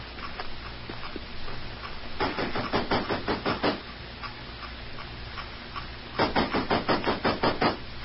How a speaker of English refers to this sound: Come on, we'll knock at the side door of Tashar Shung's house.